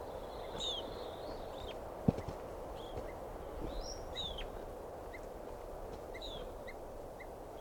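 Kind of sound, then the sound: bird, bird alarm calls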